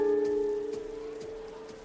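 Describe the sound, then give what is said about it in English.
Steady rain falls in Los Angeles, hissing and pattering throughout, with scattered drops. A sustained tone rings over it at first and slowly fades. No one speaks. “Even if the rain is an outlier in Los Angeles, the moody atmosphere did feel very apt for the subject matter.”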